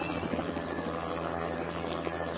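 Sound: helicopter lifting off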